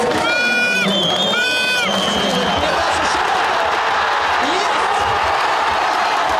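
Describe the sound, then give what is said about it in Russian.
A large crowd of football fans, many with Russian flags, in the Luzhniki fan zone in Moscow cheers and shouts loudly while watching the Russia–Czech Republic match: a dense, continuous roar, with high whistles or horn-like tones rising over the din early on. “Радостные возгласы не утихали ни на минуту.”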